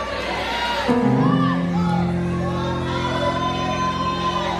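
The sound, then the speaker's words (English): A crowd of voices rises together in loud, overlapping shouts and cries of praise, filling the space continuously for several seconds with a dense, ringing wash of sound. “There's nothing wrong about shouting.”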